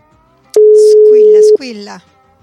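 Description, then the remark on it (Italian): A single long phone ringing tone while placing a call, a steady mid-pitched beep lasting about a second, loud and clear, followed briefly by a voice starting to speak. “Squilla di qua, squilla di là, squilla su, squilla giù.”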